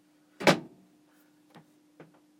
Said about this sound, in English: Hold on. Let me close the door.